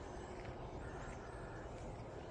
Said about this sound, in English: There's so many birds right there. And a rooster. Hold on. Look how many.